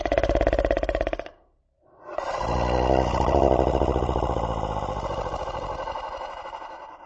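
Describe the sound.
A voice imitates a wolf asleep in bed snoring very loudly: a short rumbling snore, a brief pause, then a long, drawn-out growling snore that slowly fades, loud.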